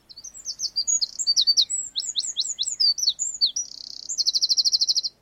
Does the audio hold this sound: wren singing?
yes